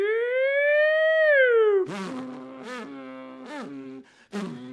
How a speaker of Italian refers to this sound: C'era un tipo col motoscafo che continuava a passare. Ogni volta che passava faceva suonare la sirena.